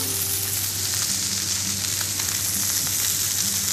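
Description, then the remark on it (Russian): Fish sizzles steadily as it fries in a hot pan, a dense crackling hiss with scattered pops and a low hum underneath, fairly loud, with no voices. “Тут, наверное, нужно всего пару минут, чтобы эта рыба обжарилась.”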